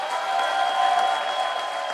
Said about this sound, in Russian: Нет, ребят, я думаю, это достойно больших аплодисментов, правда?